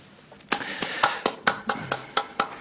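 Hand clapping during a digital meeting in a steady, even rhythm: roughly ten crisp, sharp claps following one another quickly at moderate loudness, with no voices over them.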